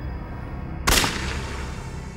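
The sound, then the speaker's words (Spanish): A single sharp gunshot from a .22-caliber gun, fired at night outside a residence, cracks out loudly after a low, steady background hum, then trails off in a fading echo. No one speaks. “se encontró frente a frente con un arma calibre 22. Adentro de la residencia, su compañera Dale Okazaki oyó el disparo”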